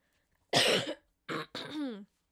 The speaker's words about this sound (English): I'm not enjoying this coughing thing, but this is just part of healing.